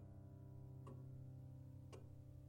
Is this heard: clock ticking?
yes